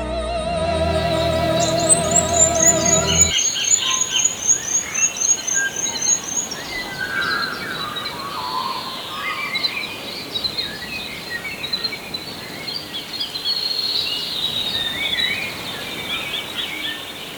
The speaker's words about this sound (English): In this hour, we're featuring …, recordings of birdsong made over a 30-year period by …. It features no musicians, no opera singers, only the birds and wildlife of Waiheke Island.